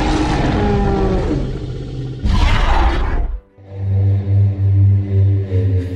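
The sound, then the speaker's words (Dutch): A loud, dinosaur-style roar sound effect: a long harsh bellow that swells into a rasping blast, then drops into a deep, pulsing, rumbling growl. No voices. “Welke brul is de juiste? Hoe klonken dino's nou precies?”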